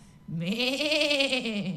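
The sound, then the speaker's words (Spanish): A single long sheep bleat, wavering and nasal, rising quickly and holding for over a second before trailing off; fairly loud with nothing else around it. “Una oveja. Sí, una oveja.”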